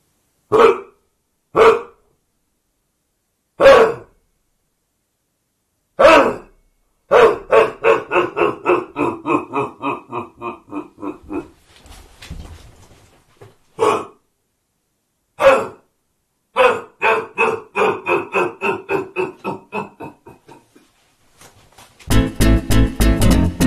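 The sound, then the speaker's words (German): A roe deer buck, observed the day before, barks loudly: single hoarse barks spaced a few seconds apart, broken by two bursts of rapid, fading bark series, with no voices. “Und beenden möchte ich heute mit dem Hundsbock, also der Rehbock, den wir gestern beobachtet haben und gehört haben, und der bellt für euch zum Abschied.”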